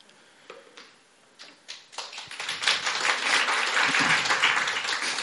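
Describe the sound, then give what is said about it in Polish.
Applause from an audience starts with a few scattered claps, then swells into steady, dense clapping that grows louder and fuller over several seconds. “Łatwo można oklaski zebrać, nie wiadomo za co.”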